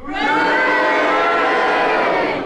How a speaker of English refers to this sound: will you please cheer? If you disagree with the challenge, will you please boo? And will you all do it together now?